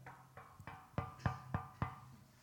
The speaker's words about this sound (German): Und plötzlich klopft es an der Tür.